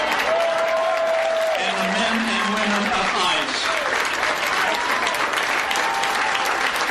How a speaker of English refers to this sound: And the vice president's crowd wasn't huge. So you don't hear thunderous applause because there are not thousands of people there.